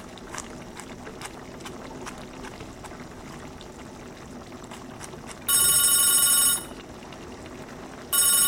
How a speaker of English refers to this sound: Phone's ringing. Leave it, I'll get to it.